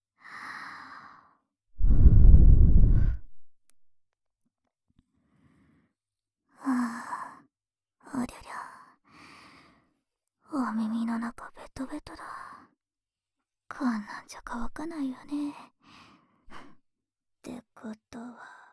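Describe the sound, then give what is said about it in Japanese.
A soft, cool breath is blown into the ear, a broad airy whoosh lasting about a second, followed by quiet whispered speech. “僕の吐息、ひんやりして気持ちいいでしょ。”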